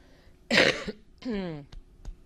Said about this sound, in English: Sorry for still coughing, and like I said, very much at the end of this thing, thank goodness.